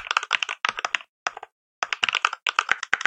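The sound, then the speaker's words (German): Rapid, crisp clacking of simulated Cherry-switch mechanical keyboard keys, played from a keyboard sound app, in quick irregular bursts with a brief pause midway, fairly loud, with no voices. “So klackt deine Tastatur, wenn du das installiert hast.”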